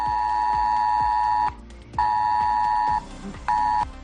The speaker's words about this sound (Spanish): Hoy entre las 9:30 y las 11 de la mañana, si estás por Ferrerías, Alcudia, Sant Antoni o Formentera, recibirás un mensaje de alerta en tu teléfono móvil.